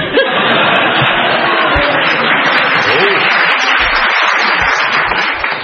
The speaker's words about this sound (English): I don't know why they're clapping. It's a bit obvious, really, isn't it?